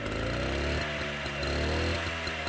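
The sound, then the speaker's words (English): A small two-stroke rally roundabout moped engine runs loud and steady, its buzzing drone with strong harmonics shifting pitch slightly as the throttle changes, with rhythmic pulsing bursts and no talking. “Sounds like a powerful motorbike, don't it? But in actual fact, it's a rally roundabout moped.”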